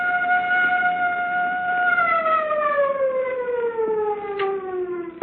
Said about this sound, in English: First the siren must stop. It offends my ears. Governor, give the order. This is the governor. Turn off the siren.